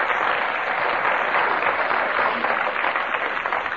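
A crowd applauds Ian Messiter on the panel game Just a Minute, dense clapping forming a continuous loud wash of sound that holds level for several seconds without any voices breaking through.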